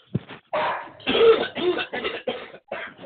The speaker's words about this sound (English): Oh, hang on, I got a cough. Hang on. Keep talking amongst yourselves.